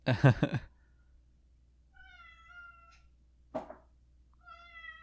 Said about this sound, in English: If you can still hear our cat, apologies. Just has a lot to say today.